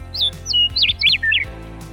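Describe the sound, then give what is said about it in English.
A small bird outside chirps in a quick series of bright, high tweets, some sliding up or down in pitch, clear over a faint low background hum. “A sweet little birdie!”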